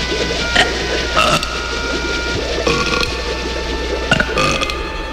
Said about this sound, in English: Quick, Charlie, burp. If you don't get down, I'll touch the ribbon. You gotta burp, Charlie. It's the only way. Attaboy. Burp again.